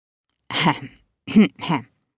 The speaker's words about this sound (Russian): Кашлянул, привлекая к себе внимание, дедушка Оскар.